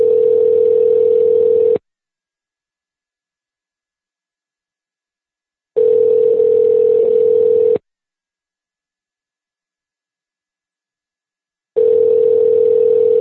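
An outgoing phone call's ringback tone while calling a friend's cell phone: three steady, mid-pitched tone bursts of about two seconds each, separated by roughly four seconds of silence, clear with no voices.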